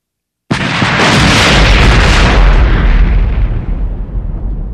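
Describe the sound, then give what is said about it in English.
A sudden, deafening explosion from an attack bursts out of silence with a brilliant flash of light, a broad roaring blast with heavy low rumble that sustains and slowly decays over several seconds. “Only that there had been a brilliant flash of light, a deafening explosion, and when he regained his senses, he found himself lying across”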